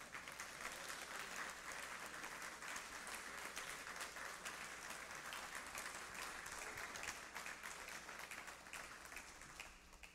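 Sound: audience clapping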